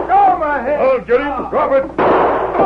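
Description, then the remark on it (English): Raised, strained voices fill the first two seconds, then a single loud, sharp gunshot fired by the Lone Ranger bursts out and its harsh blast rings on to the end. “As he frantically moved away from the blistering iron stove, the Lone Ranger fired.”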